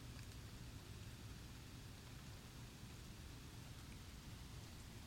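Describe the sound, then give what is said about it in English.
Faint, scattered raindrops shaken off trees tap down onto a tree-covered deck, a few soft ticks over a steady, hushed outdoor wash of noise, with no one talking. “Now we're starting to hear some raindrops come down here from the trees.”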